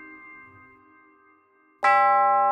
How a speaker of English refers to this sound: The bell tinkled.